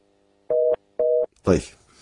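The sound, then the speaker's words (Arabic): Two short, evenly spaced beeps of a telephone line tone sound clearly, each about a quarter second long, on a call-in line with a phone problem, before a man's voice cuts in right after them. “طيب إذا نجيب على في إشكال في التليفون،”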